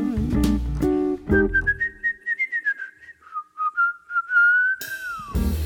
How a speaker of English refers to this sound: I don't think you're handsome, 'cause if I really did, I'd whistle a little tune.